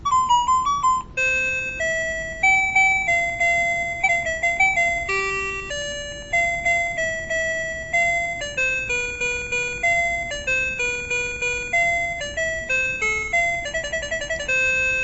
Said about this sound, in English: the alarm will go off at 9:24, and we can hear the alarm. So there's a slide switch on the left, and there's a slide switch on the right. We're working with the slide switch on the right. There's our alarm. It's 9:24 p.m.